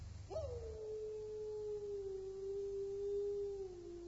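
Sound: wolves howling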